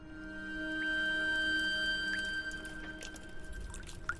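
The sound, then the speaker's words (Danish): Water from melting ice drips and trickles steadily, with scattered bright plinks of droplets over a soft running flow, fairly quiet, with no voices. “Kan du høre, hvad der er i gang med at ske? Isen begynder at smelte til vand.”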